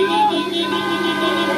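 Car horns blare in a continuous, overlapping chorus of steady, brassy tones, held without a break, with a murmur of voices mixed underneath, from a long column of cars decked with flags and photos of national team players circling Kragujevac, Serbia, celebrating a basketball medal.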